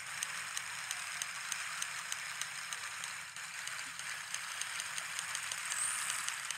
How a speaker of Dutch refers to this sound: Juist, met de vraag dus waar we nu eigenlijk naar het luisteren waren. En de reacties waren eigenlijk best wel interessant. Mensen zeiden ofwel regen, dan wel een sproeisysteem. Ik kan nu vertellen, nu onthullen, dat dit was de narwal die we hoorden.